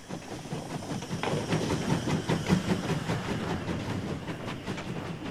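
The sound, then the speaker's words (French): A steam train rolls past with wagons in tow, a steady loud rumble and hiss over rhythmic clanking wheels, continuous for several seconds with no voices. “Et puis on s'arrêtait parce que c'était marrant de voir l'activité, les trains, les wagons.”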